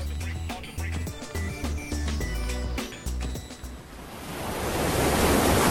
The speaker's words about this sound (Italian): Ma guarda quelle onde